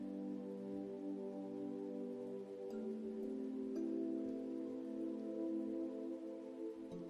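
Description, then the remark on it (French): Soft, steady rainfall patters continuously under a low, sustained tonal hum, with a few faint drips standing out. It stays quiet and even throughout, with no voices. “Maintenant, petit ange, tu peux courir pieds nus sous la pluie.”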